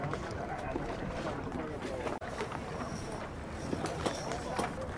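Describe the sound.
The engine of the tourist boat Västan rumbles steadily as it crowds in among sailboats whose sails are not yet up, blended with water wash and gusty wind buffeting the microphone, while indistinct voices murmur in the background.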